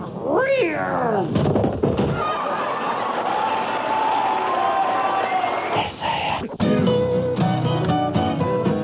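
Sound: cat meowing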